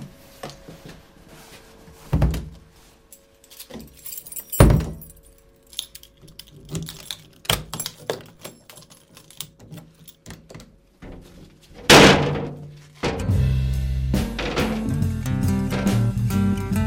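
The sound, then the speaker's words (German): Keys jangle and clink repeatedly, then a door shuts with a solid thud and a lock clicks, followed by a sustained rattling, scraping noise. “Machen wir alles zu wieder.”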